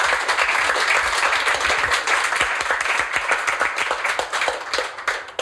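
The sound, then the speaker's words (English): Sustained applause from a crowd, a dense, steady wash of many hands clapping at once, loud throughout with individual claps poking through near the end. “Round of applause.”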